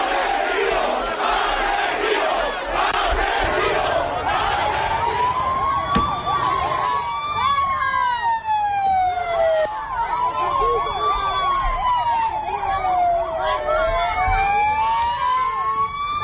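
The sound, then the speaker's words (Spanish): A loud, angry crowd in Paiporta shouts "Asesinos fuera" and jeers continuously at the King and Queen, Prime Minister Pedro Sánchez and Valencian president Carles Mazón, throwing mud and objects, while a siren wails up and down; a sharp single bang of a stick hitting the Prime Minister's car sounds partway through the din. “Asesinos fuera, oíamos los golpes, les lanzaron barro, objetos, ese golpe de un palo, incluso golpeando el coche del presidente del gobierno cuando su equipo de seguridad intentaba evacuarlo.”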